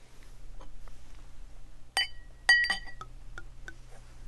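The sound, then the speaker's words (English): Ruinart champagne being poured into a glass: two sharp glassy clinks ring out with a bright sustained tone, followed by soft scattered fizzing ticks over a steady low hum. “Okay, we're going to pour.”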